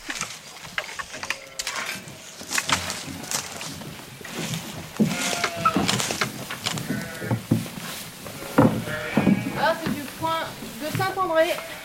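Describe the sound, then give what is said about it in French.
Several sheep bleat over and over, their wavering, quavering cries overlapping, with a steady backdrop of rustling and shuffling noise throughout. “Combien d'années je vais mettre pour être tondeuse avec 40 brebis à tondre toutes les années?”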